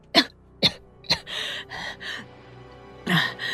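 An old man, angered, coughs several times in quick succession, three sharp hacking bursts followed by raspy, strained breaths and one more harsh cough, fairly loud.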